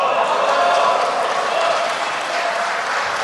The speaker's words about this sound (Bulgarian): Благодаря. Виждам, че се одобрява състава с аплодисменти.